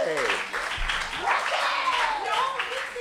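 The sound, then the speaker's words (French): A crowd applauds steadily and fairly loudly for a few seconds, with voices shouting and cheering over the clapping, applause for a contestant representing Lyon Vitry after scores of 9.4, 9.6 and 9.7 are announced. “Un tonnerre d'applaudissements pour elle.”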